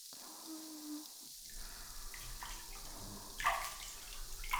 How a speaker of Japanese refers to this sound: ではそろそろ泡流していきましょうか。